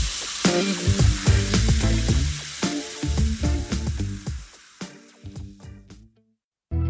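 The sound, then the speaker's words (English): A Barocca effervescent vitamin tablet fizzes in water: a crackling fizz with bright hiss and rapid popping bursts runs for several seconds, thins out, falls briefly silent, then returns loudly at the very end. “Feel the fizz.”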